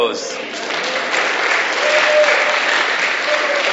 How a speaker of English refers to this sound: And all his helpers, another applause for all the helpers. Thank you.